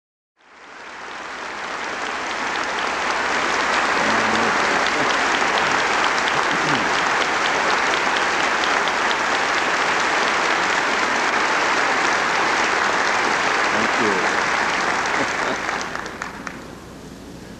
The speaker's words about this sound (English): Thank you, sweet choir. They are applauding you, and I have the privilege of being your friend and pastor.